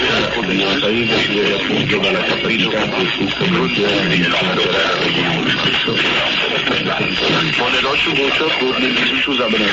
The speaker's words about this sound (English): Example number 6 is also co-channel interference, but if you listen closely, you can distinguish 3 stations on top of each other.